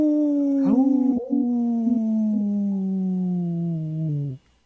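wolf howling

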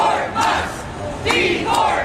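protesters chanting

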